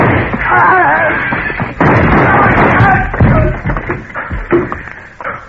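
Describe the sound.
A rapid, irregular volley of sharp, booming gunshots, several cracks overlapping in a steady barrage, with muffled voices shouting underneath the firing.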